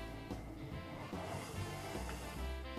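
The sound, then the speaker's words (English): An electric mixer whirs steadily on low speed, mixing icing sugar, milk and malted milk into a cake filling until well combined, a continuous motor hum with a slightly gritty churning texture, without any talking. “And we're going to mix this all through on low until it's well combined.”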